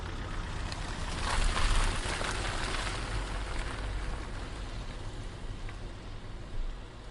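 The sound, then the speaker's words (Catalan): Steady rain from an easing storm falls continuously in a broad, even hiss, with a slightly heavier swell near the start and a low rumble underneath. No voices are present. “Quan deixàrem enrere el darrer senyal de zona restringida de l'exèrcit, la tempesta va afluixar. La pluja semblava més calmada, com si el pitjor de la nit hagués quedat enrere, sobre les pedres sagnants de Calafiguera.”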